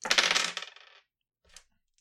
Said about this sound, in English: So all three of you save, and now I need to roll a bunch of dice. You could just fudge it.